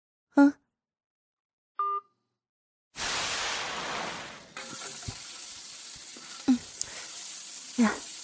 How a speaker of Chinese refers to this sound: 好了，不说了，我锅里还炒着菜呢。